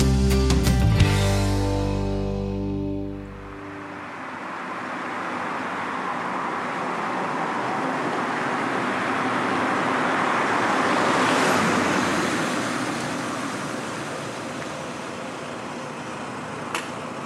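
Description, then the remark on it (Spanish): A car engine hums low and steady for a few seconds, then gives way to a broad rushing roar of road traffic that swells as vehicles pass close by and eases off again. “Comparten coche María del Monte y Mamen Mendizábal.”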